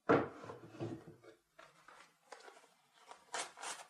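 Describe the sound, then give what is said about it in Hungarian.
The middle drawer of a desk is pulled open, a woody thump followed by sliding, rattling scrapes and a couple of brisk rustling bursts at the end, with no talking. “Ahol erre, a nagy uram, azt találok a középső fiókjában.”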